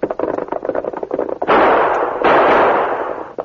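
A rapid, uneven clatter of knocks gives way to two loud gunshots fired at a rider on horseback, each a sharp burst that swells into a long, roaring hiss before fading. No one speaks.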